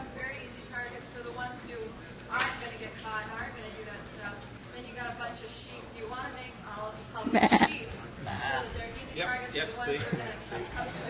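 Sheep bleat repeatedly in wavering, nasal cries, one especially loud bleat rising midway through, with fainter bleats scattered around it over a low background murmur.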